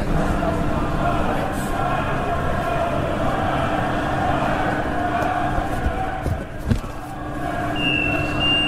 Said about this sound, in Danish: Vi er lige på et S-togstop, et enkelt stop før Ræberbaren, og vi lige kunne høre i udkanten, det er at sydenladende en stor gruppe af det, der formentlig er enten Hertha eller HSV-fans, og småt begiver sig ned af trappen.